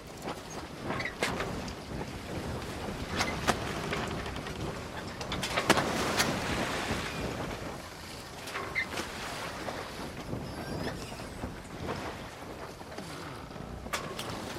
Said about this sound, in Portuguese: Aquela que seria uma travessia de 1h40 acabou por se tornar bem mais longa, dadas as condições do mar e algumas falhas nas burocracias na capitania de Puerto Ayora.